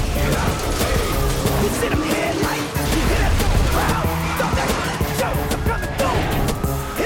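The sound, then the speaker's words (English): Loud, chaotic crashing as debris from a smashed freeway sign falls onto several police cars during a police chase, destroying them. Metal bangs and clatters over a dense roar of noise, with shouts and yells mixed in throughout. “The debris crashes down onto several of the police cars, destroying them.”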